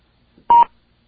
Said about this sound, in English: Well, I guess that beep means I'm supposed to talk, but I'm not going to say anything.